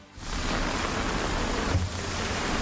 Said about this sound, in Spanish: Por decir algo, día tremendamente desapacible, lluvia y viento.